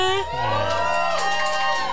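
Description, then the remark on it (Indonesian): A studio audience cheers and shouts together, a dense, steady wall of overlapping high-pitched voices and whoops that stays loud for the full two seconds. “Jadi buat pesawat-pesawat yang sekarang datang di studio, mana suaranya?”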